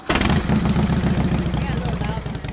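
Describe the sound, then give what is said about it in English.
A matte black and silver Harley motorcycle engine rumbles loudly and steadily, its deep, throbbing low-end pulse filling the whole stretch with a slight revving fluctuation. “The Harley she's on today is matte black and silver.”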